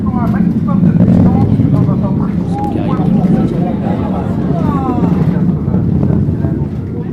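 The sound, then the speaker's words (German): A deep, continuous rocket engine thunder from the launch of the Sentinel-2B satellite at the European spaceport in Kourou, South America, heard at the control centre's viewing terrace after the sky is dark again: a broad low rumbling roar rolling on steadily, with faint voices murmuring in the background. “Erst als der Himmel schon wieder stockdunkel ist, erreicht das Donnern des Triebwerks die Aussichtsterrasse am Kontrollzentrum des Europäischen Weltraumbahnhofs im südamerikanischen Kourou.”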